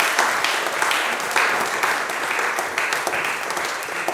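A crowd applauds steadily, many hands clapping in a dense, continuous patter that holds at an even, fairly loud level throughout, with no speech over it.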